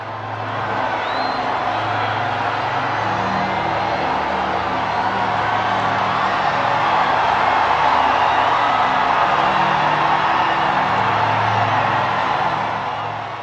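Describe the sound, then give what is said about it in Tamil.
A large crowd cheers on seeing white smoke at 7:05 after the conclave's fifth ballot, signalling a new pope has been elected; a steady, dense roar that holds at an even, loud level for the whole stretch, with scattered whoops and a low hum of voices underneath. “புதிய திருத்தந்தை தேர்ந்தெடுக்கப்பட்டு விட்டார் என்ற அவ்வடையாளத்தை கண்டதும் மக்களிடம் எழுந்த ஆரவாரம் அழகான ஓர் அனுபவம்.”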